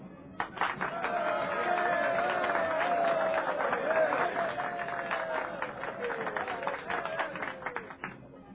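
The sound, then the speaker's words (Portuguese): A large crowd, the population of Pompeii, applauds at a public spectacle: steady, dense, rapid clapping with cheering and shouting voices mixed in, loud throughout and tapering slightly toward the end. “Uma hora depois, em pleno espetáculo, Plínio Severus é aplaudido pela população de Pompeia como um dos vitoriosos do Império.”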